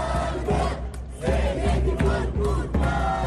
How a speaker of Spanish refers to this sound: Protestas y abucheos que se han venido repitiendo durante toda esta semana y que han llevado a la representante israelí a ensayar recibiendo abucheos incluso de su propio equipo de cara a lo que pueda encontrarse esta noche para prepararse.